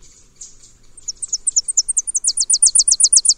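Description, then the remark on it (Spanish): Tennessee warblers sing in a tree: a high, thin song of soft scattered notes that speed up into a loud, rapid run of sharp chips, with no talking over it. “O un árbol lleno de currucas. Estos son chipes peregrinos.”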